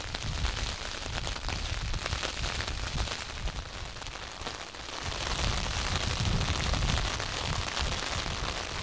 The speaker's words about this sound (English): As I'm making my way into the prevailing wind and rain,